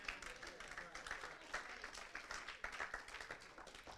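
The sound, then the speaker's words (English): An audience claps steadily for several seconds, a dense, continuous patter of many hands that holds an even level throughout. “You don't have to clap.”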